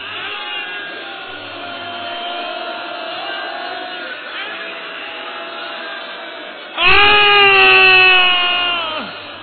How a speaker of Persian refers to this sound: حق داری، حق داری والا، هنوز هلال ماه محرم نیومده بیرون. های های این الان اینطوری گریه میکنی هنوز غروب نشده، وای به فردا.